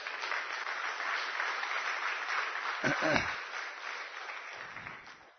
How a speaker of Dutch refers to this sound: Geef ze een schitterend applaus.